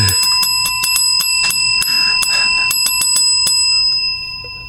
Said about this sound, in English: I'll do it on my bell. I'm going to do Morse code in the bell.